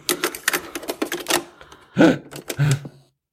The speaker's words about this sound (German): Drum, vielen Dank, ich hau mal die Kassette rein.